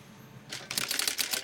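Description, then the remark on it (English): Rapid mechanical typewriter keystrokes in a newsroom, clattering in a quick, uneven rhythm after a brief quiet moment, sharp, with no voices. “In the newsroom, Aaron works intently at a typewriter.”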